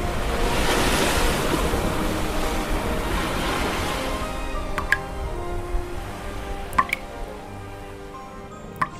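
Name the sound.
ocean waves surf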